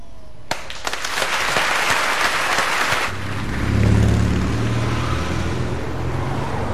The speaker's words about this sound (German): Wir, der ganze Vorstand, möchten euch für euren Mut und eure Gewissenhaftigkeit Beifall spenden.